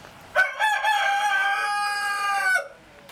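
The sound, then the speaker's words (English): A rooster on a no-kill farm crows once, a loud, harmonic cock-a-doodle-doo lasting about two seconds with a sharp start, a long sustained middle and an abrupt end, with no talking. “They really do, and they start about 3 o'clock in the morning. So I think one starts and then the rest start challenging, and it goes from there all day.”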